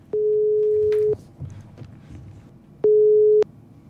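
A telephone ringing tone while a call is placed: a steady, moderately loud electronic beep lasting about a second, a pause, then the tone starting again.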